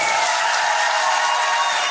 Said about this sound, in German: Hallo Leute! Mensch, womit habe ich das denn verdient, dass ihr mir so einen großen Applaus gebt? Ich habe da noch gar nichts gehört.